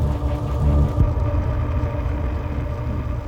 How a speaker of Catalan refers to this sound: S'encenen el motor i els fars de l'R5.